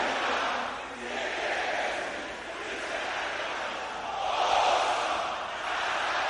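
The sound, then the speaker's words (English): An audience of men, the brothers, shouting a prayer together louder than the sisters did, a loud, continuous roar of many overlapping voices that swells and dips in waves without a break. “Brothers, shout it louder than the sisters.”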